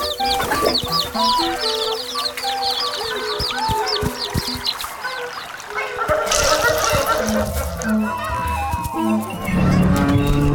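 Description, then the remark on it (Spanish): Countryside ambience full of farm fowl: hens cluck in busy, overlapping bursts with some higher bird chirps, a steady dense bed of animal sound throughout, with a faint splash of water in places. “El campo no suena igual a la fábrica y la naturaleza no tiene los mismos timbres que la maquinaria industrial.”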